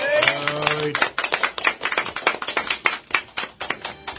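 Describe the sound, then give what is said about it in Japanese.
A small group applauds the program's 400th broadcast with quick, uneven claps that patter steadily for a few seconds, a short voiced exclamation sounding at the very start before the clapping carries on alone. “いつもよりも拍手多めでありがとうございます”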